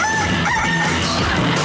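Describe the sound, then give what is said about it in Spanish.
A rooster crows loudly, heard on Radioactiva: one sustained, strained cock-a-doodle-doo call filling the whole moment with no voices around it. “El gallo.”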